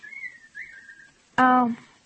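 person whistling a tune

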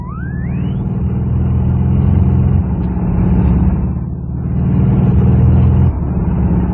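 car driving past

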